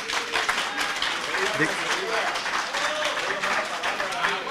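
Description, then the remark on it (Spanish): A crowd of people applauds steadily for several seconds, the dense crackle of many hands clapping at once, with a few voices murmuring underneath, applauding a fellow participant to motivate him while the audio for a recording is being prepared. “Entonces vamos, mientras estamos preparando el audio, ¿quieren dar un aplauso al compañero para motivar?”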